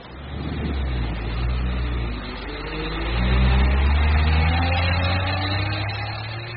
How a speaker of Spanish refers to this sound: Me subí en el autobús que me llevó a Guadalajara.